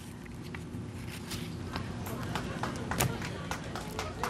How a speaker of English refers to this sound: You can hear the clapping on the ground here. You have employees clapping and cheering.